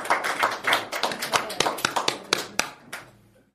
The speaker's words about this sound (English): And so give her a big round of applause and make her feel very, very welcome.